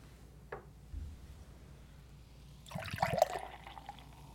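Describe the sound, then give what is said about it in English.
A short hiss early on, then beer glugs and splashes loudly into a glass in a fast, forceful pour lasting about two seconds, with no talking. “Ooh, I poured mine very aggressively.”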